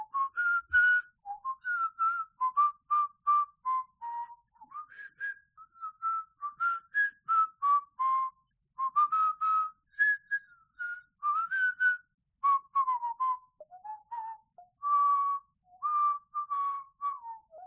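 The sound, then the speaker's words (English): A bright whistled opening theme tune plays alone for nearly eighteen seconds, a lively melody of quick, clipped notes with short pauses between phrases, with no talking over it. “This is once again the Android Buffet Podcast, now with whistling opening theme song due to continued kazoo shortage.”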